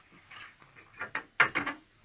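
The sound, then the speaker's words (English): A guard unlocks a jail cell door: a key rattles and a mechanism turns with a few metallic clicks, ending in a sharp louder clunk and two quick clacks as the bolt gives. No voices. “I'll unlock the cell door.”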